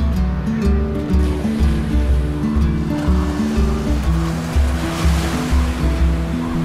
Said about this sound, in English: And there's a wave coming up. Seems to be a bit of enthusiasm there. Oh, that wave's going to get... It's got him.